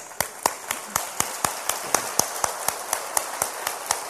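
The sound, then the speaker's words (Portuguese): An audience applauds the word of the Lord, many hands clapping in a steady, even rhythm of about four claps per second over a dense patter of scattered claps, with no voices. “A palavra do Senhor nos traz uma palavra de vida, de bênçãos, de promessa, e ela merece uma salva de palmas.”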